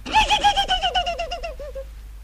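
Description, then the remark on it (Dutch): A human voice imitates a horse's whinny: a high, quavering cry that trembles rapidly, slides downward and fades out over about two seconds, fairly loud, with no other talk. “Een paard, dat is een groot wit beest. Net met een Sinterklaas op zijn rug. En hij maakt zo'n geluid, hè?”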